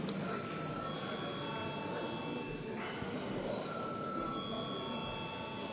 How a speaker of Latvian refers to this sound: Lūdzu zvanu.